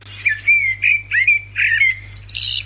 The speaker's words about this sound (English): This is the Eurasian blackbird, right? So this is its song.